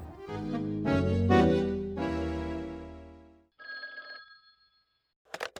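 A sustained, swelling tonal chord fades out, then a phone rings once on the line of an outgoing call, a short buzzing trill followed by quiet and a brief click at the end.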